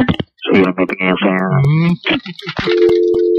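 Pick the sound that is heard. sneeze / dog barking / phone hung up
phone hung up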